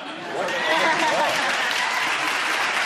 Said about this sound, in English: I'm rolling my eyes at the studio audience applauding at that.